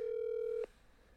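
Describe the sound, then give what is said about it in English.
A steady electronic telephone tone hums for just over half a second, then cuts off abruptly with a small click, leaving faint line hiss. No one speaks. “he would like to make a phone call and discuss wrestling with us today.”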